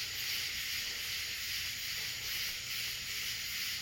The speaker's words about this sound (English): My mom said these are cicadas. It's a kind of locust.